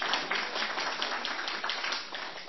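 A crowd at an informal farewell gathering applauds steadily, many hands clapping in a dense, continuous patter that stays fairly even in loudness throughout, with no talking over it.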